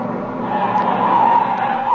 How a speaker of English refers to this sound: Hey, wait a second. Look at that car come up here.